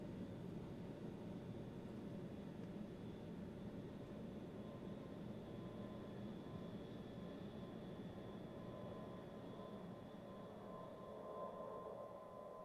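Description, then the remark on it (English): Inside an airplane cabin, a steady, low droning hum fills the space without pause, the muffled engine roar with a faint high whine running along on top. No one speaks. “He is asleep on a plane wearing dark glasses.”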